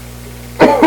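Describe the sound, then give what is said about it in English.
A quick, forceful sneeze bursts out after a moment of quiet with a faint low hum, followed almost immediately by a second shorter breathy burst. “Bless you, sir.”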